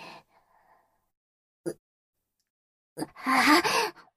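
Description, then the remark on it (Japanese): A few heavy, panting breaths from a man masturbating: a short exhale, a sharp quick intake, then a long ragged breath near the end, with quiet pauses between. “もう、その息遣いどうにかならないの？はぁはぁ、耳障りなんだけど。”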